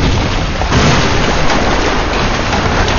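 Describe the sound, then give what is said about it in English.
A loud, continuous roar of loose dirt and rocks pouring down into a stream, a dense rumbling and crackling rush that swells slightly after the first moment and holds steady throughout, with no voices. “An avalanche of loose dirt and rocks began pouring into the stream and covered Delphi completely.”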